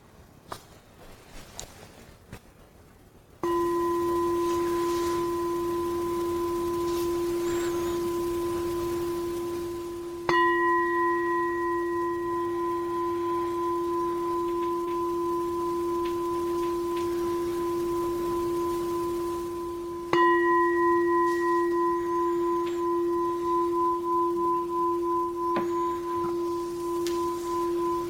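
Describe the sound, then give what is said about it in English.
A meditation bell is struck three times, each strike blooming into a long, steady, humming resonance with bright overtones that barely fade before the next ring. No voices are heard. “Orient yourself to hearing the vibrations of the bell with your whole body.”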